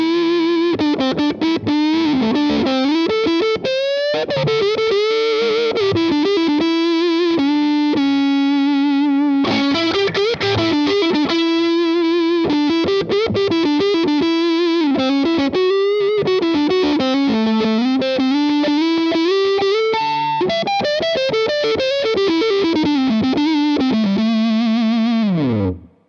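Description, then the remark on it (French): Saturated electric guitar with its tone knob rolled fully off, approaching a guitarist's "woman tone", plays a loud, continuous melodic line of sustained, singing notes with thick, rich harmonics and a muted top end. No one speaks. “dans ces cas-là, le potard de tonalité, plutôt que d'enlever du son, va rajouter des harmoniques hyper intéressantes.”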